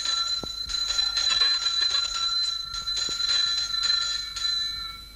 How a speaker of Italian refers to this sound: È Lurio l'uomo che risponde al suono di questo campanello.